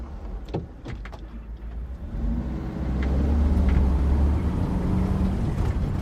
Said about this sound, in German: Da ich keine Flügel habe, fahre ich mit dem Bus zurück nach Zagreb. Aus den Lautsprechern tönt kroatische Volksmusik.